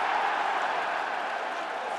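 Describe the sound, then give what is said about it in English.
A large stadium crowd at Wembley roars in a loud, sustained cheer as Eli Manning runs in a New York Giants touchdown against the Miami Dolphins in an American football game, a dense wash of voices holding steady without a break for a couple of seconds. “If New York score on this play, you hear the cheer that goes up.”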